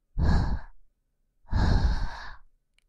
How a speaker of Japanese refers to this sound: はぁ、息切れしちゃって、本当の犬みたいだね。